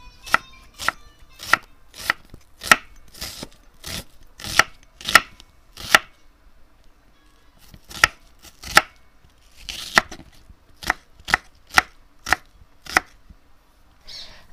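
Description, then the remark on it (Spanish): A knife chops onion and garlic on a cutting board in sharp, steady, crisp strokes, preparing ingredients for a mashed eggplant dish, with a brief pause midway before the even chopping rhythm resumes. “Por otro lado, mientras se va enfriando ahí, que ya machacamos la berenjena, vamos a ir picando los compuestos.”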